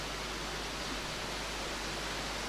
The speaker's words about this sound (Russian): Вы знаете, какое преимущество того, что дождь пошел? Гулять уже за палаткой никто не будет.